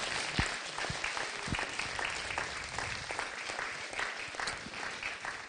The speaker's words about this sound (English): Why don't you applaud one another for the courage that you've seen in each other today?